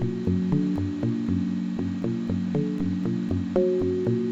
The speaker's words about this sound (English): Next, I will turn down the distortion. And turn it off completely. This is the unmodified guitar sound.